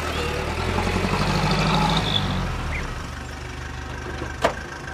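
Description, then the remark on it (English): A taxi's car engine idles with a steady, low rumbling hum that swells slightly then settles, and a single sharp click sounds near the end. No one speaks. “Hallo? Hallo? Taxi?”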